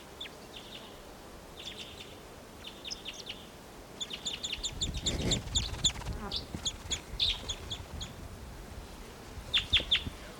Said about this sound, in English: That was a wild bird.